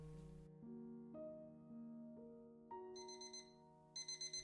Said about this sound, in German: Als am nächsten Morgen der Wecker klingelte